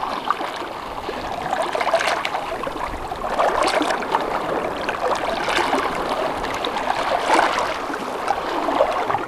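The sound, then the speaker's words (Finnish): Gentle lake water laps and trickles against the shore in a steady wash of small splashes and gurgles, with no voices present. “Kyllä se vesi on sellainen yksi elementti, että mä oon itse kasvanut Keski-Suomessa järvimaisemassa ja se on omanlainen ääni”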